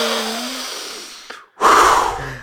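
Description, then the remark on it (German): A voice imitates a neighbour woman's heavy panting: two long, noisy breaths, the first a fading exhale, then a short pause and a louder, harsher huff. “Die schnauft auch immer so.”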